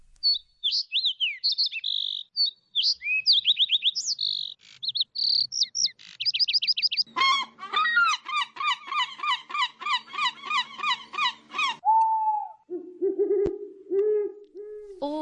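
Birds chirp and trill in quick, bright bursts, followed by a dense run of repeated rhythmic calls and then lower hooting notes, all clear with no talking.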